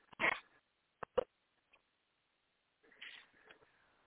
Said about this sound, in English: All right, I think I got the dog calmed down.